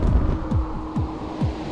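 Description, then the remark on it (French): A huge demolition explosion rumble as charges, fired from a detonator box, blast a concrete pyramid apart from its inside: a deep, continuous roar that throbs with heavy downward-sliding pulses about twice a second, steady and loud throughout, with no voices. “Le cœur de la terre, comme 1000 tonnerres joués en simultané, un bruit phénoménal s'élève jusqu'à nous.”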